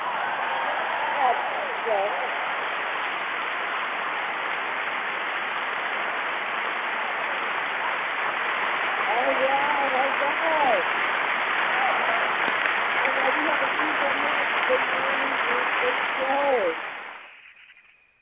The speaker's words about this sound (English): Well, we're going to keep the show going, and before we end, we will clap it up for you,